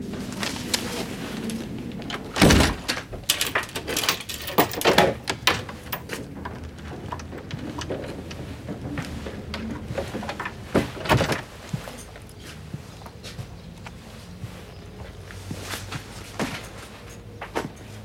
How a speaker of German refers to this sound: Wenn Sie die Papiere da wegtun, kann ich die Tür aufmachen.